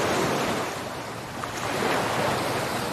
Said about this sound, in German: Lausche den kraftvollen Wellen. Die Wellen kommen und gehen.